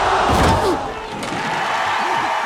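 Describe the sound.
A heavy thud as a boxer, after repeated blows to the face, is knocked down onto the boxing ring canvas again, followed by a steady wash of crowd noise and indistinct voices.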